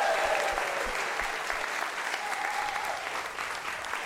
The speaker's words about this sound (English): Ladies and gentlemen, thank you so much to the Giant Dwarf Theatre for having us tonight. Let's have a big round of applause for them.